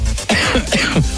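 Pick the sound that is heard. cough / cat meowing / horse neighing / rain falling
cough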